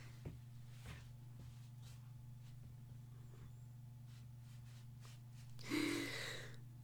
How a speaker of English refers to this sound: And I yawned right in the middle. Pardon my yawn, as I am currently blowing a gasket over my own writing.